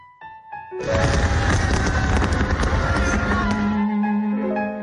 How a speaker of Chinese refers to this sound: 听说今晚会有一些比较特别的一些烟花，可能有星星啊之类的，这种就没见过嘛。